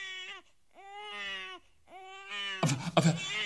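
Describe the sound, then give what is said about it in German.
A newborn baby cries in long, high, wavering wails, three drawn-out cries separated by brief pauses, the last one turning harsher and more strained. “Ja, das konnte ich am Schreien nicht erkennen.”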